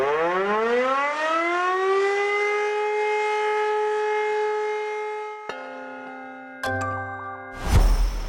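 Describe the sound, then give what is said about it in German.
A civil defense all-clear siren winds up and holds one long, steady, loud tone for several seconds, then cuts off into brief chiming tones and a short burst of noise. “Und ich würde sagen, wir beenden diesen Podcast-Teil stilgerecht mit der Sirene. Entwarnungssirene.”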